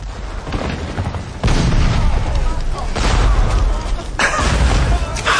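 A massive cannon broadside erupts in a long, rolling explosion, deep booming blasts overlapping into a sustained roar, with a sharp fresh burst near the end over continuous low rumble.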